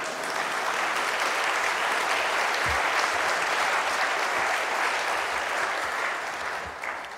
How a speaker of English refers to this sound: Come on, give me some clapping for that.